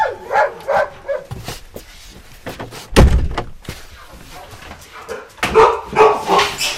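Dogs bark in short, repeated bursts near the start and again toward the end, with a heavy thump in between. No one speaks.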